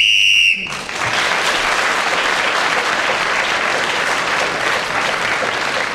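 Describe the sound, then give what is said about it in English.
A single short, shrill whistle blast sounds at the very start, ending the round, then gives way immediately to loud, steady applause and cheering that continues to the end. “Well, Clement wasn't nicked by any of his competitors before the whistle, so he was got an extra point for speaking at that particular moment, and he's now taken the lead ahead of Derek Nimmo at the end of that round.”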